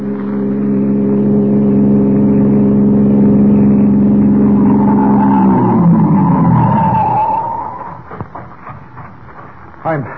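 A car engine drones loudly for several seconds as it passes along a road, then its pitch drops as it slows and fades away, leaving a few scattered thumps and rustles at the end.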